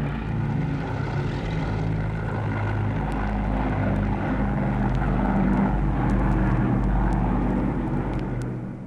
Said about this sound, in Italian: Aereo.